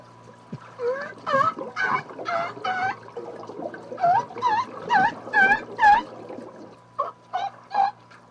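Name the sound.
orca imitating seal calls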